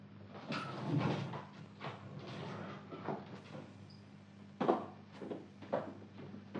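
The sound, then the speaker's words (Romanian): A room door is eased open just a crack, with a few short rattles and clicks from the handle and frame over a low steady hum. No one speaks. “Du-te tu și te uită. Crapă puțin ușa.”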